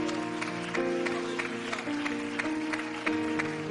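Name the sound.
audience clapping hands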